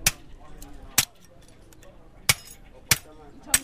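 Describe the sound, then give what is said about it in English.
Two boys' hammers smash into computer screens to get at copper wire and other metal at the Agbogbloshie scrap metal site in Accra, Ghana: five sharp, irregularly spaced blows, each a loud clanking crack with a bright metallic, glassy ring, over a low background murmur of voices. “Two boys use hammers to smash into the guts of computer screens.”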